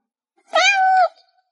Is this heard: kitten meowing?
yes